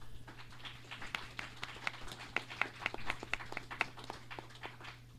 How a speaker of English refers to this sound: I want to thank everybody for coming out on Saturday night. I want everybody to go and say, give themselves a nice round of applause.